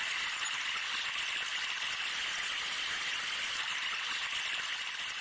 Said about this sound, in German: Hört ihr das? Wir befinden uns an einem weiteren der absoluten Highlights des Bergparks, den Wasserspielen. Die sind echt beeindruckend. Das Wasser fließt nämlich beim Herkules oben los, über die Kaskaden und endet im Schlossteich.